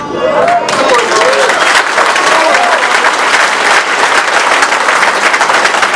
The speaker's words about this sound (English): And I'm really clapping for y'all because I couldn't have done it without you.